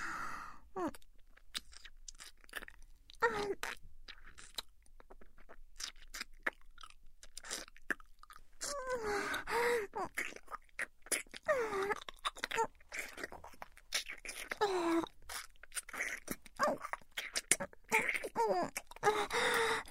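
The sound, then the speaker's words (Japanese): Wet, smacking sounds of deep tongue kissing repeat steadily for the whole stretch, with sticky mouth clicks, soft breathy moans and occasional gasps between the deep, slurping kisses; no words are spoken. “ほら、続けるならこんなジギみたいなキスだけじゃなくて、もっと刺激的なキスもしようじゃないか。口開けて、うん、下入れるよ。”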